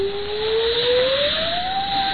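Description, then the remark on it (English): A thin, steady whistle slowly rises in pitch over a constant rushing noise, sustained for a couple of seconds: storm wind keening, heard aboard a ship. No voices are present. “It is but a whistling of the wind.”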